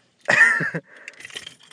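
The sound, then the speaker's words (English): A short burst of clattering metal is followed by a softer, scattered jingle, a bunch of car keys with a tape measure attached being shaken and handled. No one speaks. “They're car keys.”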